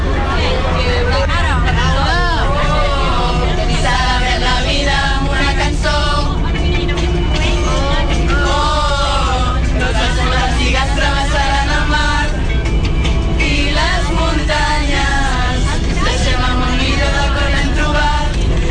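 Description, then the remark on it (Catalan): Steady low engine rumble of a moving bus heading to Tàrrega, Catalonia, fills the cabin while many passengers, scouts travelling to a scouting gathering, chatter and laugh together, a constant lively babble of overlapping voices. “Ens trobem a l'autobús direcció Tàrrega i aprofitem aquesta estona per conèixer una mica més què és la Jamborinada.”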